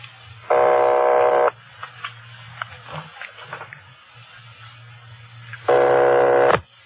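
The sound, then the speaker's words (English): Two long, steady ringback tones on a telephone line as a number is rung for a call from Los Angeles, each about a second, separated by a pause filled with faint clicks and low line hum, fairly loud. “They're ringing the number, Sergeant.”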